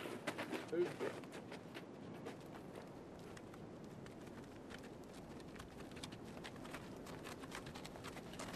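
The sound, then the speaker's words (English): Horses' hooves walk steadily as the horses are led down a hill, a continuous uneven clatter of clopping steps, with a low murmur of voices in the background. “The boys shall lead our horses down the hill.”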